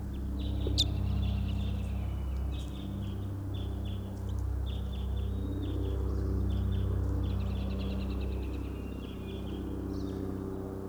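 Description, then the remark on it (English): A type 5 bird calls way across a clearing, repeating short high chirping phrases over and over, faint above a steady low rumble that runs throughout. “Third recording, this is a type 5 bird way across the clearing.”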